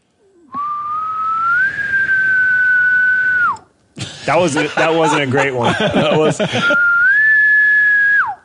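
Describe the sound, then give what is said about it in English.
A person whistles twice in imitation of a faraway bull elk bugle, each call a long steady tone that rises slightly and drops off at the end, with brief speech between them. “can whistle where it sounds like, you know, like when you can't even tell if you heard a bull or not, it's so far away.”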